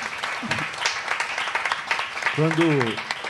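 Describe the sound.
A crowd at a sarau marking the 35th anniversary of the NGO GAPA breaks into a round of applause, dense steady clapping for a few seconds, with a voice briefly rising over it near the end.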